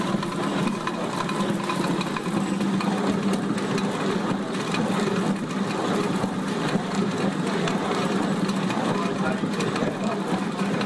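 A steady, continuous mechanical rumble and clatter of a water-driven, non-electric millstone slowly grinding grain, about 20–30 kilos an hour depending on how dry the grain is, with a constant low hum and busy rattling texture that never lets up.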